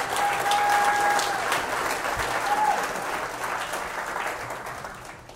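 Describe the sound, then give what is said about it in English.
A large audience at a convention claps steadily in sustained applause for the convention committee, loud and dense at first and gradually tapering off, with a faint whistle cutting through near the start. “So let's give the convention committee another big round.”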